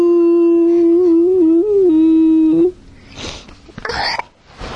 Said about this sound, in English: That's a big yawn.